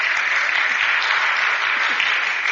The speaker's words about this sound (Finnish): Ja 50 vuotta siitä, kun menimme avioliittoon. Pienet taputukset.